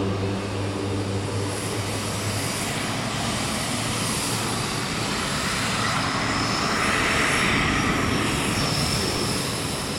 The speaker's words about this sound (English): Well, for one, it is very loud. The plane is finally pulled forward. We're now on the runway with the last of the convoy of flights that's flying aid into Gaza today.